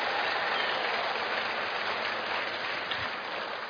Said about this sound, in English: So, if you're a married couple, you can clap for them one more time if you want to.